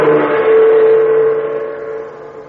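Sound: car engine revving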